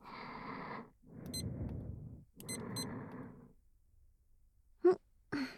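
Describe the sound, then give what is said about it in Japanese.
A kitchen timer being set: bursts of rustling handling noise with a few short, high electronic beeps, followed by two sharp clicks near the end. No one speaks. “じゃあ先輩、タイマーセットしますね。”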